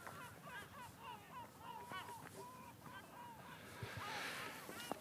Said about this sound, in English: Oh, here they are, my friends, the seagulls above us.